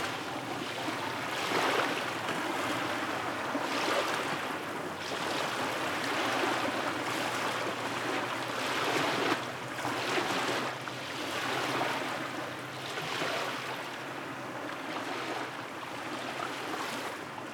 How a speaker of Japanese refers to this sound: 個人的にこの波の音は黄色やオレンジ色といった優しいイメージがあります